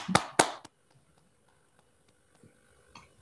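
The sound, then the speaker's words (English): An online audience unmutes on a call to applaud a talk: three sharp, loud hand claps ring out at the start, then fade into faint scattered clicks and soft claps; no one speaks. “So let's all unmute to applaud this great talk.”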